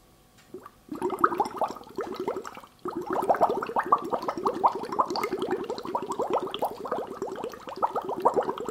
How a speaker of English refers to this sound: So what you're going to do, you're going to get your straw and your glass of water, and you're simply just going to make some bubbles.